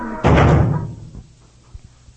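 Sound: door slamming shut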